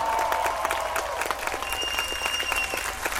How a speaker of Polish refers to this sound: Jeszcze raz wielkie brawa dla nich!